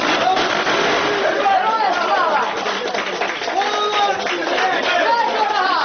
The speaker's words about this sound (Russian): Скорее всего, это окончание пресс-конференции, потому что мы слышим аплодисменты в адрес Надежды Савченко.